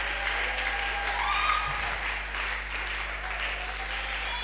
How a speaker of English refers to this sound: Or if you agree with me, can you clap? Can you shout amen?